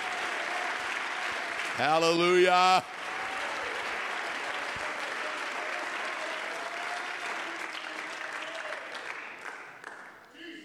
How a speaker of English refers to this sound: Oh, come on, let's clap our hands and praise him again.